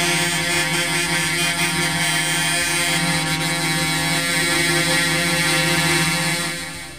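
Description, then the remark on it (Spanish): Many truck horns blare at once in a loud, continuous, overlapping drone of steady tones, holding for several seconds with no break and no voices. Truck drivers honk in protest, reportedly over rising fuel prices, with more trucks arriving at the site. “Ya, lo que está escuchando recién, si se puso en sintonía recién ahora con la radio, es los bocinazos que están efectuando 1, 2, 3, 4, 5, 6, 7, 8, digamos más, ¿eh? Más camiones que han llegado hasta este lugar.”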